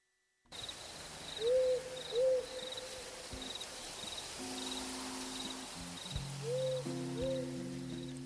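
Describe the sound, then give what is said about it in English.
A burrowing owl gives a soft two-note hoot, then repeats it several seconds later, each call clear above a steady background chirring of crickets. “Do you know about the burrowing owl?”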